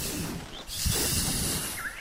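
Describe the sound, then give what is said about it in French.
A wolf roars angrily, a harsh, breathy snarl that bursts in after a short hiss and holds loud for over a second with no one talking. “Le roi loup entra alors dans une colère folle et rugit après tout ce qui se trouvait aux alentours.”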